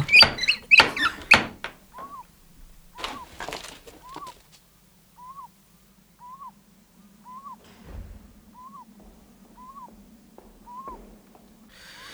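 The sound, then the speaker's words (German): A metal ring-shaped door knocker raps several times in quick succession at night, then twice more after a short pause, while a soft, evenly spaced owl-like call repeats in the quiet background. “Ein Klopfring. Soll ich?”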